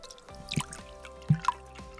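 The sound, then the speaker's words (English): Milk is splashed into eggs in a few short, soft liquid plops and drips, spaced irregularly and fairly quiet, with no talking. “Step number 7, for a bonus, I recommend adding a splash of milk to the eggs.”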